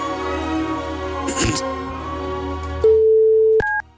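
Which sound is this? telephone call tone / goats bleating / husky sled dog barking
telephone call tone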